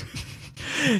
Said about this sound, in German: Falls ihr euch immer gefragt, was der Reverb ist, der Reverb macht so einen schönen Hall auf die Stimme.